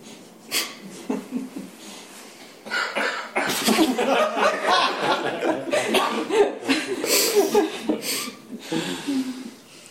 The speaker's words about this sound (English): And one was not feeling well and coughed.